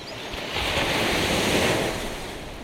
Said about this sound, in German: Dann können wir uns ja jetzt ein bisschen entspannen. Am besten am Wasser. Wir gehen an den Strand, ans Meer und lauschen den Wellen in Itacaré in Brasilien.